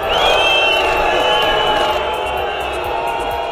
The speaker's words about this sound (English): French ministers have been booed as they arrived in Nice for a minute's silence in memory of the 84 people killed in last week's terror attack.